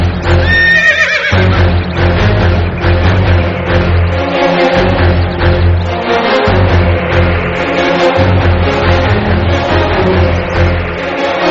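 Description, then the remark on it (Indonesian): A horse whinnies loudly near the start, its cry rising and falling, then hoofbeats and rumbling carriage noise continue steadily underneath as the coachman pulls the reins and the two-horse team pulling the carriage halts. “Kereta terus bergerak perlahan-lahan dan tiba-tiba Pak Kusir menarik tali kekang kuda. Dua ekor kuda buru-buru berhenti.”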